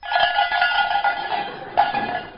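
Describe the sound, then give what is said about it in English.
Tinkling bells ring far away in the distance, over and over in a loose, uneven rhythm, their bright metallic tones overlapping at a steady moderate level, with a sharper clang near the end and no voices. “Far away in the distance... we hear the tinkle of the bells.”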